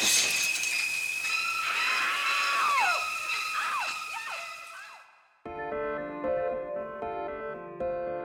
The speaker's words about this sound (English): And when we add that iconic music to Psycho's shower scene, we get a very noisy, very scary classic.